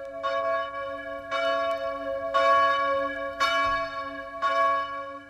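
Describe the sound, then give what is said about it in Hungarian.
A newly blessed church bell, the bell of hope at an earthquake-struck parish church in Cascia, rings out in steady, evenly spaced strikes, about five peals with rich lingering overtones that blend into a continuous resonant hum, loud with no voices. “Kássa, megáldották a remény harangját.”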